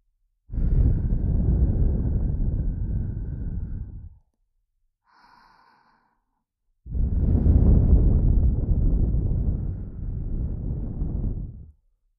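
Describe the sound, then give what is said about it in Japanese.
Two long breaths exhaled right against the microphone to tickle the listener, each a soft rushing whoosh lasting several seconds, separated by a brief quiet pause with a faint small sound. “不安なこと、怖いこと、全部全部忘れてしまえるように、私の手と吐息を用いてくすぐっちゃいます。”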